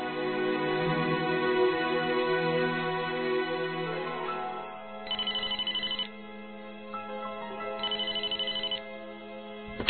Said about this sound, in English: At the Gamage residence, Rosalind is sitting in the family room when she receives a phone call from her husband.